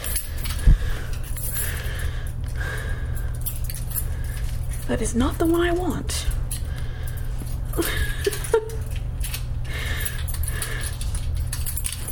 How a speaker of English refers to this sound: Let me just find my keys. There they are.